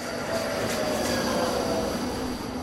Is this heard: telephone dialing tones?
no